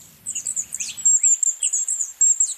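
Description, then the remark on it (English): Very high, thin trilling calls of Mallee emu wrens, among Australia's smallest birds and weighing at most a teaspoon of sugar, chatter almost continuously, rising and falling in quick bursts, with a faint low rumble underneath in the first second. “Mallee emu wrens are one of Australia's smallest birds.”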